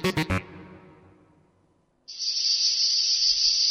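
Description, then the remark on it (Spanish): Three quick percussive hits ring out and fade, then after a short near-silence a cicada starts up abruptly with a loud, steady, high-pitched buzzing drone that continues to the end, in a UPB Radio promo for the show La Chicharra. “La Chicharra canta cada divendres en UPB Radio a les 4:30 de la vesprada.”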